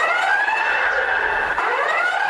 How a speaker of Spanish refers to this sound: Los expertos creen que las sirenas pueden dar tiempo a los residentes para huir desde las zonas de riesgo y salvar sus vidas.